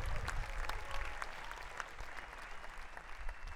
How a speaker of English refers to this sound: We then play, yes, you can, it's okay, you can applaud, no problem.